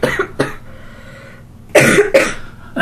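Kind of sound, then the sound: human body sound, coughing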